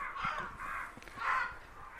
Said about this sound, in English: Got some crows. We got crows.